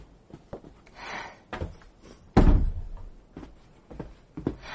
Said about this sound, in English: Shut the door